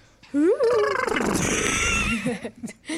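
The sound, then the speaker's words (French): A person imitates a horse's neigh on the radio: a loud, wavering whinny that rises and trembles, then breaks into a breathy, snorting rush before trailing off in a few low grunts. “Sinon, je peux vous faire le cheval.”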